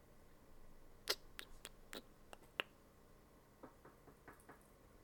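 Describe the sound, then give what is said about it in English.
A series of sharp knocks on a door, an irregular burst of about six raps followed by a softer, quicker set, heard alone. “What the heck's knocking at my door right now?”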